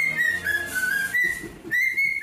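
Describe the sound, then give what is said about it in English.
Archie, a cockatiel, whistles a tune: a clear, steady high note that glides gently up and down, pausing briefly midway before resuming. Moderately loud, with no voices over it. “This is the cockatiel that's quite famous now, isn't it?”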